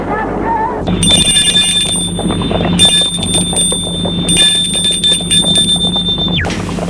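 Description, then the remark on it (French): A gate bell at a house's gate rings in a steady, high-pitched electric trill, sounding in long bursts with brief gaps, then stopping abruptly, over a low rumbling background. “Il arrive vers ses parents, effondré, sonne au portail.”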